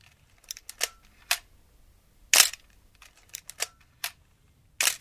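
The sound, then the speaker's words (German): A series of crisp mechanical analog camera shutter release clicks, about nine in irregular succession, fairly loud against a quiet background, with one or two sharper, louder snaps among them. “Ja, und wir lassen den Finger noch am Auslöser.”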